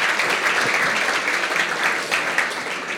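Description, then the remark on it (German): An audience claps for people who originally come from other nations, a dense, steady burst of applause that holds at an even, fairly loud level for the whole stretch, with no voices standing out. “Ja, und jetzt klatschen wir mal.”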